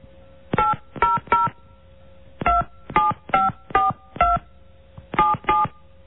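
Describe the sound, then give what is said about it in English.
Ten touch-tone telephone keypad beeps dialed in quick clusters of three, five and two as an area code and phone number are entered into an automated phone message system, each short dual-tone chirp clear, with brief pauses between the groups and no talking. “Please enter it using touch tones, followed by the pound key.”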